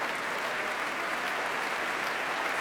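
Sustained applause from a large concert hall audience for oboe d'amore player Christine Pendril, brought to her feet by Valery Gergiev; a dense, even wash of clapping at steady loudness with no voices standing out.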